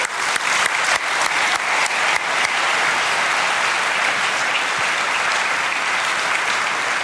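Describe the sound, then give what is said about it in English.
Steady audience applause, given for the Lord after a prayer, fills the whole stretch, a dense wash of many hands clapping at once, loud and sustained without any voices standing out. “Let's give the Lord a hand.”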